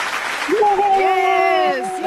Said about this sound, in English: And just applause. And just applause. I feel like we need to welcome you back via the telephone.